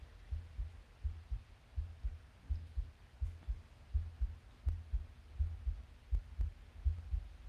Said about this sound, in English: Isn't that interesting? That he would take those heartbeats and turn them into melodies and turn them into music.